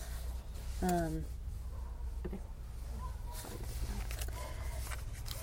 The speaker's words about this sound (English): you can hear the paper rustling. Does that matter? His paper?